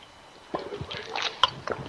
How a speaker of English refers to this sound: So, I'm going to take a drink of water because I'm going to be talking for quite a while here.